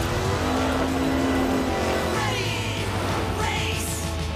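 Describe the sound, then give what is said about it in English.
Loud race car engines roar and rev as four race cars speed off, their pitch sweeping up and down over a steady rumble for several seconds, with no talking. “Rubble, Zuma, Rocky, and Sky all wear helmets and speed off in race cars.”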